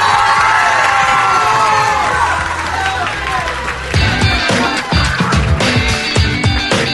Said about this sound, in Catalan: Han vingut ben acompanyats i volem que es noti, així que demano un fort aplaudiment per l'Institut Ribera Baixa del Prat de Llobregat. I també un fort aplaudiment per l'Institut d'Almenar.